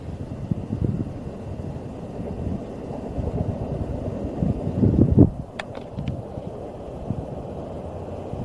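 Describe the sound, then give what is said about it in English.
A steady low rumble of traffic with a train in the distance, swelling briefly about two-thirds through before a few sharp clicks and a return to the even, murmuring drone. No one speaks. “Sound of the train in the distance. Sound of traffic.”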